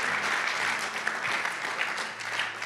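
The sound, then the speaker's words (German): Sustained applause from an audience clapping for God for being faithful, a dense, steady wash of many hands clapping at once with no clear individual beats, holding an even loudness throughout. “Können wir Gott mal einen Applaus dafür geben, dass er treu ist und dass das ist, woran wir uns erinnern sollen.”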